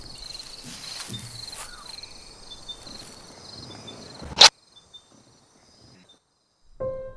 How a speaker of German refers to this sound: Es herrscht totale Finsternis und Stille. Nur die Grillen sind zu hören und geheimnisvolle Schritte im Gras.